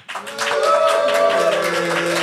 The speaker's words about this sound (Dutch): Hey. Dank jullie wel. Dit applaus komt allemaal voor jou rekening